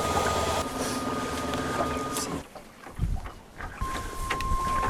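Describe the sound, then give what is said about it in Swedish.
A steady electric motor hum with a faint high whine runs on a sailboat with an electric motor, in first of five speed steps, mixed with wind and water noise, briefly dipping quieter midway before resuming at a similar low, even level. “Nej, ska vi säga ettan, det är 5 steg.”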